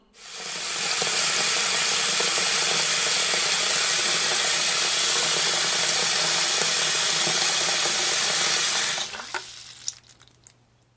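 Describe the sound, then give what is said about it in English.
Water runs steadily from a tap into a balloon, filling it to make a water balloon, with a loud, constant rushing hiss for about nine seconds, then cuts off, leaving a few faint drips and small clicks. “I'm filling it up with water. Now it's a water balloon.”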